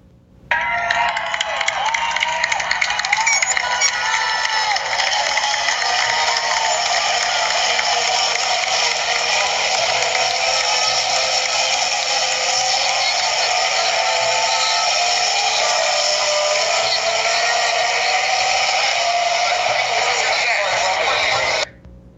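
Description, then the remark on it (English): Modern Formula One cars race by at turn 19 at the end of the first lap, Vettel coming through in the lead, with a high, buzzing engine whine that rises and falls steadily over a constant roar of a cheering crowd, all loud and somewhat tinny. “They sound like a bunch of angry bees compared to the old cars.”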